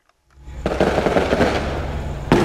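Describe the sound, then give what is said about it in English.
Fireworks over a city in the Brazilian Amazon in the evening, set off to celebrate a court victory by drug traffickers, crackle and pop in a dense, continuous barrage of rapid bursts, ending with a sharper, louder bang. No one speaks. “The fireworks lighting up this city on this evening are because of powerful drug traffickers just secured a victory in court.”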